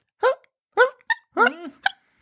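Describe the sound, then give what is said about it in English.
A voice imitates a female dog barking in her sleep: about six short, hiccup-like yips and whimpers in an uneven rhythm, with one longer wavering whine in the middle. “when she's barking in her sleep, makes sounds that are like hiccups.”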